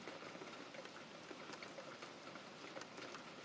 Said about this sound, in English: Guys, I don't know if you guys can hear the rain. Hold on. Let me try opening my window. Can you guys hear the rain? I don't know if you can. It's raining. Feels very nice, actually, the cold air. Rain ASMR.